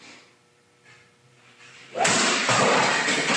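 A 10-pound practice golf driver smashes into a Keurig coffee machine: a low hum, then a sudden loud crack of impact, followed by a second burst and a harsh, sustained clatter of breaking plastic.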